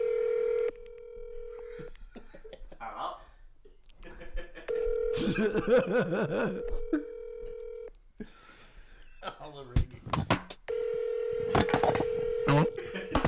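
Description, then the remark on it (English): A phone dials out to call a father: steady electronic tones hum in long stretches, broken by a burst of sharp keypad beeps and clicks, while voices and light laughter murmur faintly between them. “I'm gonna call my dad too.”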